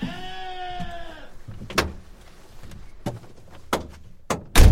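A single sheep, being driven toward the slaughterhouse, bleats with a wavering, nasal tone for about a second, followed by several sharp knocks and thuds, the last one loudest. No one speaks.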